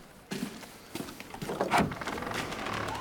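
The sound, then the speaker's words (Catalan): A house door is opened: a couple of sharp clicks from the latch, then a rattling, scraping sweep as it swings, at moderate volume with no one speaking. “La Caterina es gira amb espant cap a la porta i Luc va obrir.”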